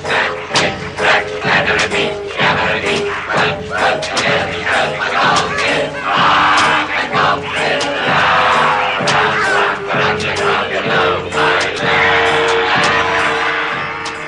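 Goblins shouting and hurling insults as they hurry Bilbo and the dwarves along, with cracks of the whip: a loud, unbroken clamor of many rough voices yelling and jeering over each other for the whole stretch, punctuated by sharp, sudden bursts.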